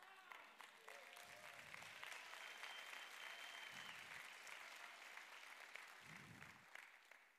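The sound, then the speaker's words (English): A thin, scattered patter of applause from an audience, steady and subdued for several seconds with no voices over it, fading slightly toward the end. “That wasn't a very hearty clap.”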